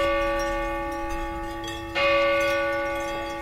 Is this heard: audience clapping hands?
no